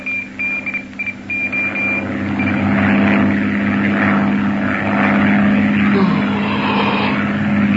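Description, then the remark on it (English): A propeller airplane engine drones steadily and loudly in flight with a low, continuous hum and rushing noise, joined by a few short high-pitched beeps early on; it is the fifth hour of the flight and the engine has burned about 300 gallons of fuel so far. “Engine's burned about 300 gallons so far.”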